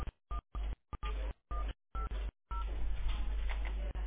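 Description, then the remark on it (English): A rapid string of telephone keypad beeps, about eight short tones separated by brief silences, as a 10-digit NPI (physician identifier) is punched in on a call to an automated line; a steady noisy line hiss follows. “Please enter or say the 10-digit NPI.”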